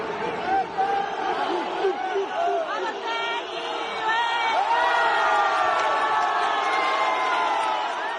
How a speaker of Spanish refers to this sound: Los gritos simiescos, los insultos racistas, hasta que Balotelli ha cogido el balón, le ha pegado un patadón y ha querido irse del campo